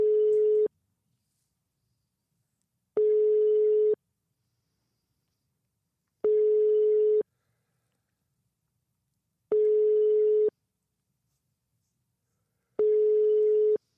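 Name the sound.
telephone call tone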